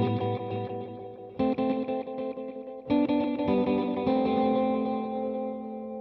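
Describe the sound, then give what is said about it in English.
Sustained instrument chords run through a tape echo effect with added saturation and the reverb turned off, with repeats trailing each new chord and a gentle warble of wow and flutter colouring the sound. No voices. “Added effects like saturation, wow, and flutter, which is kind of a bit like a modulating tone.”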